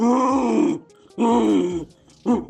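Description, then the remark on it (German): A man from Hamburg imitates a rutting stag's roar, the first-place entry in a Deutschlandfunk Nova stag-calling contest: two long, deep, raspy bellows with a short gap between, then the start of a third cut off at the end. Loud, with no other talking. “Und Platz 1 und damit der offizielle Deutschlandfunk Nova 12-Ender und Hirschrufmeister ist er hier aus Hamburg.”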